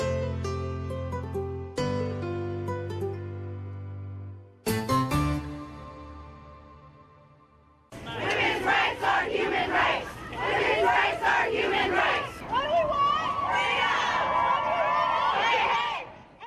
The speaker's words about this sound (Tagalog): Nagmartsa ang libo-libong katao para sa pagkakapantay-pantay ng mga kababaihan. Ganoon na rin ang pagbibigay empowerment o kapangyarihan sa kanila sa Estados Unidos.